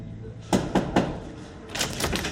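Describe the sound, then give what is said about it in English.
Three quick, evenly spaced knocks on an apartment door labeled 4J in the daytime ring out clear, followed by a brief stretch of shuffling, rustling noise. “In daytime, she knocks at an apartment door labeled 4J.”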